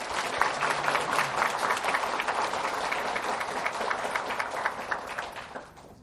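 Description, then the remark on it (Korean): A church audience at a worship service applauds steadily for about six seconds in thanks to God and for the volunteers, a dense wash of many hands clapping at once that holds its level before tapering off at the end. “또한 우리가 은혜롭게 예배드릴 수 있도록 보이는 곳에서 또 보이지 않는 곳에서 수고와 섬김을 다한 여러 봉사자들을 위해서도 우리 박수를 쳐드릴까요?”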